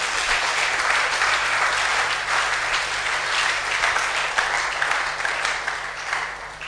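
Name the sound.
church audience applauding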